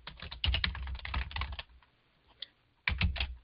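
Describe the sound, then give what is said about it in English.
Rapid typing on a computer keyboard, a dense burst of key clicks for about a second and a half, a short pause with a stray tap, then another quick flurry of keystrokes, clear. “Like, I'm going to just start typing for me how that shows up in my life.”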